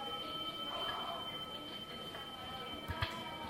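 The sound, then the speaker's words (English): A steady, faint electrical-sounding hum with thin sustained tones coming from magic rings, broken near the end by a couple of soft clicks. No one speaks. “Listen. That humming sound.”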